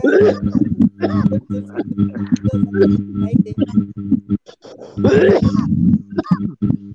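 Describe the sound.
Harsh, raspy coughing bursts come in clusters, a rough fit at the start and another strong bout later, over a constant low droning hum with some voice sounds mixed in.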